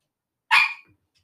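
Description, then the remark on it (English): A single sharp dog bark, loud and abrupt, with a brief tail as it fades; no talking, and silence on either side. “Does anyone want a dog? It's a fucking pain in the arse.”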